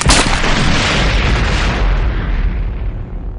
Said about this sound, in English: But before he could fire, the speeder bike flipped in the air, tumbled out of control, and crashed through the wall of a distant building at roughly 200 kilometers per hour.